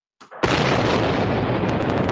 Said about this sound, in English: You know, I got a sound bite too. I got to look for it. I don't know where I dropped it. I got the explosion. The bomb. Oh, here you go.